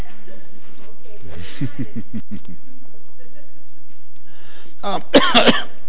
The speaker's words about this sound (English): Because somebody must be out there wanting me to cough today. Is that right?